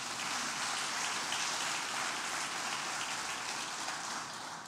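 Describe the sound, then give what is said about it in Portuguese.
A church audience claps steadily in applause for Jesus during a sermon, a dense, continuous wash of hand claps that holds at an even level for several seconds, with no voices over it. “Dá um aplauso a Jesus aí, vai.”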